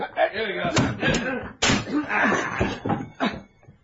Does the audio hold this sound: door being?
yes